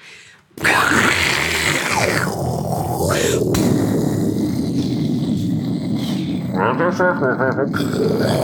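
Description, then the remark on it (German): A person imitates a hissing, snarling tiger with a loud, raspy, breathy vocalization. It starts abruptly and sustains for several seconds, turning rougher and more voiced toward the end. “Nee, das war jetzt ein fauchender Tiger.”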